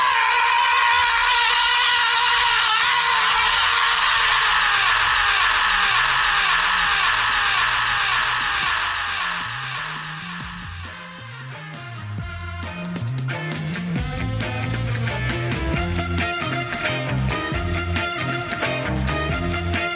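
Loud, sustained angry screaming by football manager Tony Pulis, with wavering, echoing pitch, fills the first half, then fades into a busy music bed with a pulsing bass line and percussion.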